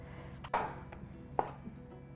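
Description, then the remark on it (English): A knife chops mushrooms on a cutting board, with a few irregularly spaced thuds against a quiet background and no talking. “And then we'll start chopping up the mushrooms here.”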